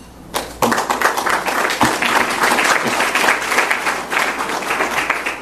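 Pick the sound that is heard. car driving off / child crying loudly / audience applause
audience applause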